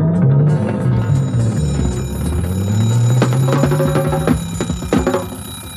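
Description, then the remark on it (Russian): A mechanical alarm clock rings loudly and continuously, its bell rattling with sharp clattering bursts, while a low gliding tone hums underneath throughout. “Но не спит будильник, а звонит, коварен как бандит.”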